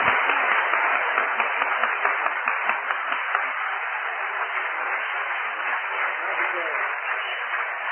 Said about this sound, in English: we want to just give him a real round of applause as he comes for his last message, mind you, and I don't care what he says, do it, all right?